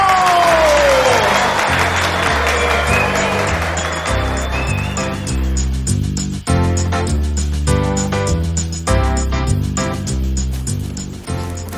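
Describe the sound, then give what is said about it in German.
An audience claps and cheers with a couple of whistles for the clowns after the juggling grand finale of a clown show, the applause loudest at the start and soon buried under bright, rhythmic music with a steady thumping beat. “Herzlichen Dank und einen extra großen Applaus an unsere Clowns.”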